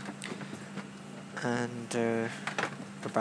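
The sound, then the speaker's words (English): A steady low airplane engine drone hums beneath the whole stretch inside the plane cabin before departure, while passengers board, put luggage on the overhead racks and speak over it. “You can probably hear the engine of the plane in the background.”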